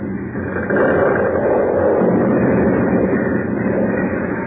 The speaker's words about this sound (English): Look out there. The hole's within 2 feet of another building already. You've got to stop it. At once. If look, you don't... The building. The foundation's under mine. Crashing.